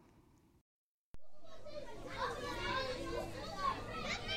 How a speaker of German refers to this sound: Ein Pulk aufgeregter Schüler drängt sich dicht an dicht durch das Museum of Modern Arts in New York.